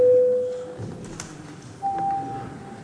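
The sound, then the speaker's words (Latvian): A steady electronic tone sounds for under a second, then after a short pause a second, higher-pitched tone holds briefly, both clear over a faint background murmur, as the bell is called for deputies to vote on a proposal in a parliamentary session. “Deputāti vēlas balsot, lūdzu zvanu, balsosim par piekto deputātas Papulis iesniegto priekšlikumu.”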